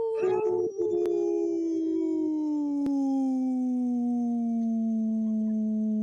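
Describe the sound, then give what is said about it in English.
A person imitates a wolf howl: one long, loud, unbroken note that starts with a rough onset, then slowly glides downward in pitch for about six seconds. “I could take a big big breath and do a howl for a very long time.”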